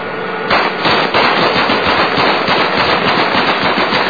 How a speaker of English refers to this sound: They shoot the vehicle up first. Crush the vehicle with the tank.